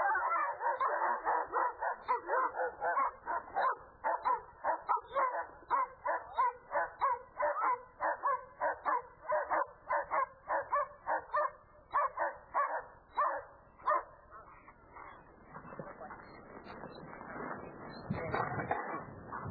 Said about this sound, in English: And just to show you that even though the dog seriously wants to bite me, that he's safe. He just walked up and pets the dog, and the dog is fine.